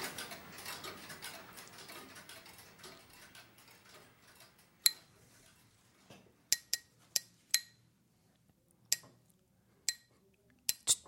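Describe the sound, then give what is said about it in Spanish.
Sharp, bright metallic taps from a small gem hammer used for carving strike at irregular intervals, about nine clicks, following a few seconds of soft rustling texture with no talking. “No me desconcentréis, que estoy con mi martillito de gemas haciendo, tallando.”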